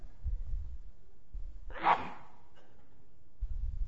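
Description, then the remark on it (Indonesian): A single sharp sneeze bursts out near the middle, loud, with a quick breathy onset, set against faint low rumbling before and after, during an Indonesian-language Islamic lecture. “Alhamdulillah. Yahdikum Allah.”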